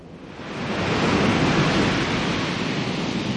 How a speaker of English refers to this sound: The storm broke in all its fury the following morning. My golly, how it broke!